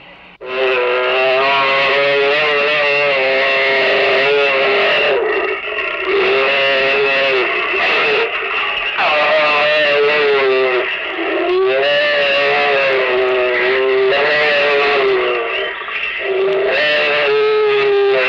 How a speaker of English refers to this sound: The sounds you will hear in a moment are the actual sounds of two tigers mating.